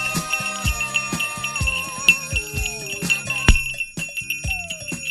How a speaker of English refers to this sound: Did someone say ring the bell?